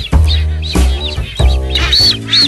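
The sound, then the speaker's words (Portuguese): Calls from a masked booby nesting colony with recently hatched chicks moulting their down, on the south part of an island in Brazil after daybreak: loud, harsh honking cries repeating in quick succession and overlapping, with thin whistling notes threaded through. No one speaks. “O ninhal é de atobás mascarados. Os filhotes nasceram há pouco e estão trocando a penugem.”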